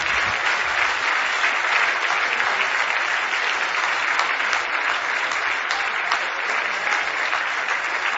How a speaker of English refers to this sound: Give him a hand clap of praise in Jesus' name.